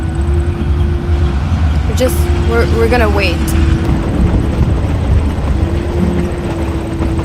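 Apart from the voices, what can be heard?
train going past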